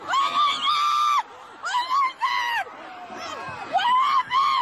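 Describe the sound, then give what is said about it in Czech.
Several people in a crowd at a pre-Christmas parade scream in panic after an SUV drives into the crowd, overlapping, shrill, sustained cries rising and falling in bursts over a murmuring crowd, loud throughout. “A pak už jen výkřiky plné zděšení, strach a šok.”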